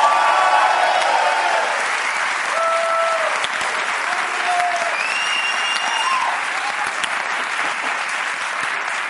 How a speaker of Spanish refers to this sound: Y sobre todo, quienes pueden levantar todo esto, pido un aplauso